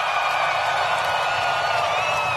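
A large crowd at a concert in Miami roars and cheers steadily, a dense wash of voices and shouts with no breaks, loud and sustained throughout.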